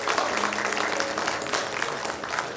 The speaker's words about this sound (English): Quick question. If this is your first time here at North Oaks, why don't you raise your hand? Family, we got clapping to do.